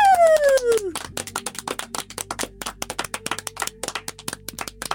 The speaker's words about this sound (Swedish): Jag är jättebra på att applådera högt.